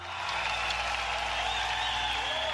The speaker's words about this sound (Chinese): 首席大法官托尼主持范布伦宣誓就职之后，范布伦发表就职演说，安德鲁·杰克逊随后缓缓走下台阶。 就在这个时候人群中爆出一片欢呼。